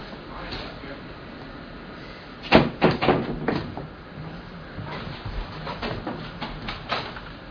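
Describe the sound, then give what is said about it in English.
A damaged door is being rattled and knocked about, with a burst of clattering bangs and scrapes midway, then a second, softer run of knocks and jiggling toward the end. “You just did that when you slammed the door.”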